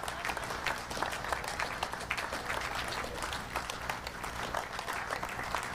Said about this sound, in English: So let's give them a big round of applause as they do that. You'll have to keep clapping because there's a few of them that have got to go in.